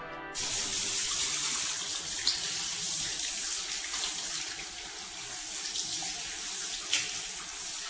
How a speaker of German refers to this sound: steht unter der Dusche. Hinter ihm der Umkleideraum der Mannschaft.